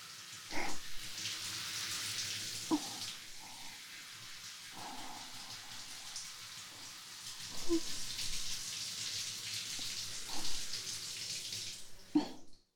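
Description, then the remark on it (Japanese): Shower water rinsing shampoo out of hair: a steady hiss of spraying water running throughout, broken by several soft thumps and splashes as the stream shifts, with no talking. “シャワーはおしまいです”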